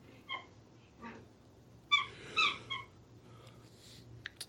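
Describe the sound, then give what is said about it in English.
A squeaky dog toy squeals in several short, high-pitched bursts, the loudest pair clustered together in the middle, over a low steady hum with no talking. “Is that your dog or is that a dog toy? Well, it is a toy.”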